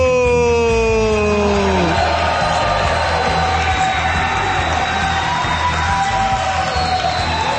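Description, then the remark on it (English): A capacity crowd of over 1,100 people at the High Line Orlando Center, at a live Alex Jones broadcast, roars and cheers continuously, with whoops and shouts rising over a dense wash of noise; a held, sliding tone fades out in the first two seconds. “Coming to you live from the High Line Orlando Center to a capacity crowd of over 1,100 people, broadcasting worldwide via satellite, number one on the internet, and transmitting across the globe, it's Alex Jones and the Info Warriors!”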